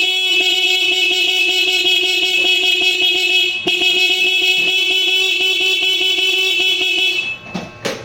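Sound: car horn honking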